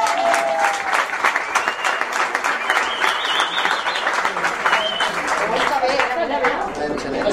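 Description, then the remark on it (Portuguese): An audience breaks into steady, loud applause for a volunteer to be the enxaneta in a three-level human pillar, dense clapping filling the whole stretch, with cheers and a few voices calling out over it. “Vinga, un aplauso, no?”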